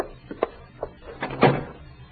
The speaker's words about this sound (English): Close that door, Grace.